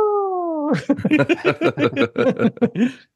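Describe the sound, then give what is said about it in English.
A voice imitates the noise of an elephant on top of a staff as the staff hits the ground: a brief, steady trumpeting tone, immediately followed by a rapid burst of choppy vocal sounds, fairly loud. “So he drops the staff and as the staff hits the ground, the elephant on top of the staff makes a noise.”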